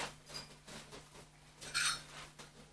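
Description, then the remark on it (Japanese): Quiet clatter of utensils against a pan while tomatoes are being grilled, in a few soft, irregular knocks, then one brighter metallic clink, all over a low steady hum with no voices. “あのね、今さ、トマト焼いてるから、ごめんな。”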